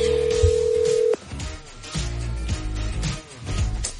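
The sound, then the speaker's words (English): A steady telephone dial tone holds for about a second, then cuts off into the busy tones and clicks of a phone being dialed and ringing as someone calls their boss, fairly loud with no one talking. “I'm going to make a call real quick.”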